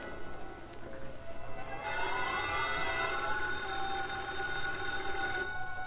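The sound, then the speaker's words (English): A telephone in an apartment rings repeatedly with a sustained, bright metallic jangle, steady and fairly loud, heard alone without any talking, continuing through most of the few seconds. “The phone in Britt Reed's apartment rang repeatedly.”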